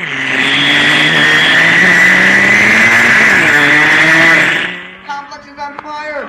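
A loud vehicle engine roars and revs for several seconds as the vehicle approaches, its pitch rising and wavering, then cuts off abruptly as excited voices take over near the end.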